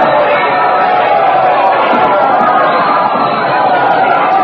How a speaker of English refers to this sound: The crowd has seen her. They're cheering. Listen to that ovation.